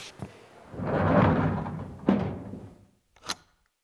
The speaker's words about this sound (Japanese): 扉を閉めて。